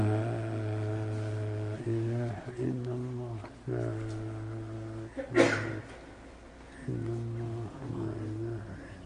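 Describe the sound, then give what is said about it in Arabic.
One abrupt, forceful sneeze bursts out between stretches of a man's steady, low-pitched speech, louder than the talking around it and over within a moment. “رحمك الله.”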